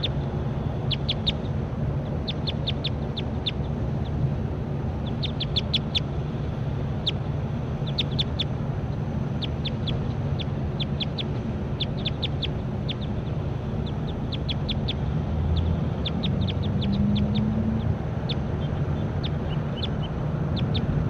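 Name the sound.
bird calls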